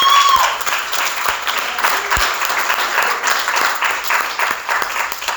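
Steady applause from an audience at an Alcoholics Anonymous meeting for a speaker, many hands clapping in a dense, continuous patter at an even loudness for several seconds, with a brief high tone at the very start.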